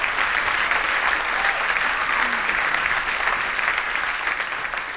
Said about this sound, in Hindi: बहनों और भाइयों, हो जाएं चंद्रशेखर साहब के लिए जोरदार तालियां।